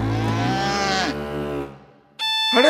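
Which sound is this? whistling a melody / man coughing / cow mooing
cow mooing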